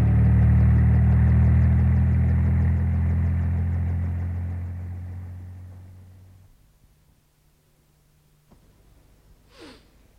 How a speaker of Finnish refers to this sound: Aha! Siinähän helikopteri onkin.